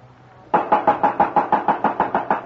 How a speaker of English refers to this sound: We better knock one more time.